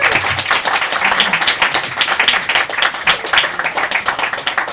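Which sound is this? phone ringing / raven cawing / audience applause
audience applause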